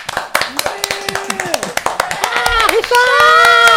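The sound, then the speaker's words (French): Loud audience applause welcoming Richard Gottener, a dense stream of claps, with voices and shouts of cheering rising over it toward the end. “Richard Gottener est avec nous, on l'applaudit très très fort.”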